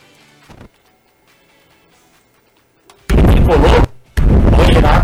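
An electric fan running at a reporter's end of a Brazilian sports radio broadcast, heard as two loud, harsh bursts of roaring, rushing air noise, each under a second long and separated by a short gap, after a quiet stretch with faint voices.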